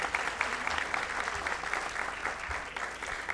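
Steady audience applause fills the moment, a dense wash of many hands clapping at once, sustained and even for a few seconds without anyone speaking over it.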